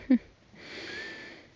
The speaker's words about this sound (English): Oh, goodness. I'm yawning now.